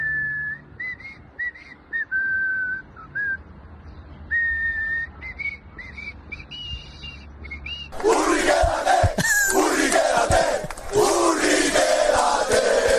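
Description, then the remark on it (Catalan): A Sabadell football crowd breaks into a loud, rhythmic chant of "Urri, quédate" for player Albert Urriols after about eight seconds of a whistled melody over faint background murmur, the mass of voices roaring steadily to the end. “Urri, quédate, era el càntic.”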